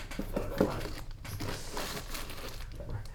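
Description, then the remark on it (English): Rustling and crinkling as USB cables and a small twist tie are handled and untangled, a steady run of soft scraping and rattling with no voices. “So, all this USB stuff untangled.”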